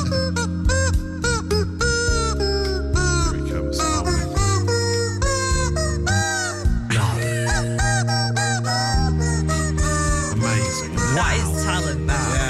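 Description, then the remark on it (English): Several rubber chickens squeak and honk together in layered, sustained four-part harmony, playing a cover of a pop song with shifting chords, loud, with no talking. “So they're managing to get rubber chickens to harmonise, which is a thing of beauty.”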